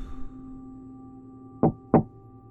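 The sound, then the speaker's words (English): Two sharp knocks on a door, evenly spaced, rising over a low steady hum with no voices. “Whit counted 12 doors on his right, and then found himself taking a deep breath before knocking twice.”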